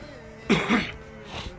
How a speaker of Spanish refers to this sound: tosecitas de por medio.